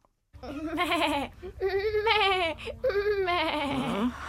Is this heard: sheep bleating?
yes